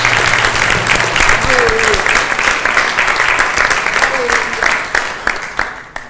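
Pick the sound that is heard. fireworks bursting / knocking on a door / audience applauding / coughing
audience applauding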